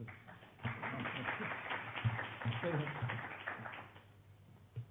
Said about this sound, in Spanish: Esperen, ¿no? A aplaudir para después.